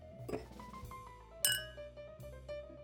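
Glasses clink together in a toast, a few bright ringing taps with one sharper, clearer chime in the middle, fairly quiet over a soft tonal background with no talking.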